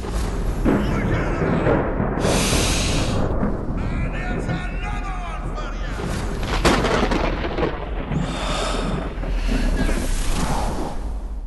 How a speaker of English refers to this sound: There's a thunderstorm broken out in the suites downstairs. Rain, lightning, wind, all that stuff. That will be Thor.